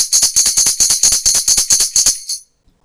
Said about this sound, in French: Les cymbalettes.